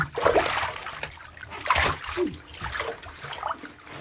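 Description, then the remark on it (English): Bathwater splashes and sloshes in a tub as a person stands up, with several uneven bursts of movement and dripping trickles in between, fairly loud against a quiet background. “So let me get up.”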